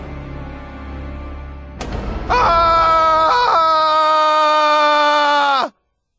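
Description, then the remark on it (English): A low rumble gives way to a sudden burst, then a single long, loud, shrill scream of horror that holds steady for several seconds before cutting off abruptly. “I wanted to start this book with a scream of horror.”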